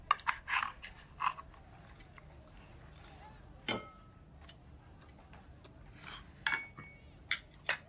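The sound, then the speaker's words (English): Scattered clinks and scrapes of cutlery against plates at an irregular pace, with one sharper ringing clatter midway and faint chewing noises in between. “We're eating.”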